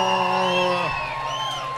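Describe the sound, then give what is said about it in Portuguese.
An audience shouts and cheers together after a catira folk music performance, a loud, sustained burst of voices, with a long held yell riding over the crowd noise before it eases slightly. “E quem gostou, dá um grito!”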